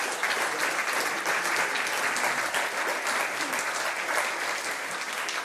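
An audience at a service of the Andreas-Gemeinde church applauds steadily to welcome a speaker, dense clapping at an even, sustained level throughout with no voices standing out.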